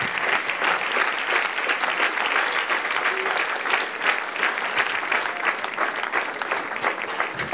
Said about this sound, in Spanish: Sigue aplaudiendo al Señor, dando gracias al Señor.